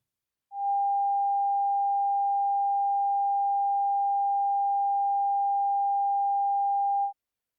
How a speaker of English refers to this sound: The first sound, sound G, was 800 hertz.